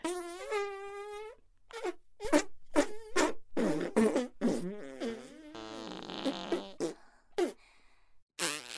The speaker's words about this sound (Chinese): 对，继续，继续放屁吧，我也会放屁的，你可要好好的把我所有的骚屁都吸进去哦。